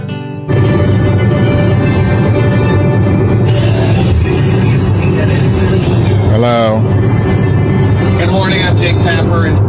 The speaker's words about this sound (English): Right now I'm in a car.